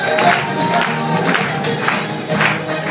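An audience applauds a Herbalife leader and professor, a dense, steady wash of many hands clapping at once, mixed with a faint crowd murmur and scattered cheers, lasting the whole few seconds at a fairly loud level.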